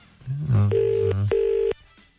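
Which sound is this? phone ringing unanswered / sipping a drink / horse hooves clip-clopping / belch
phone ringing unanswered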